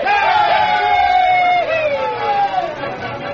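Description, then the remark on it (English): A posse of men cheer together for the Lone Ranger, the masked man, in a loud, sustained shout lasting a few seconds, their voices rising and falling in long drawn-out whoops before tapering off slightly. “How about a cheer for the masked man, boys?”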